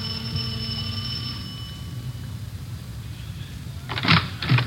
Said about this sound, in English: We went up the front stairs and rang the doorbell.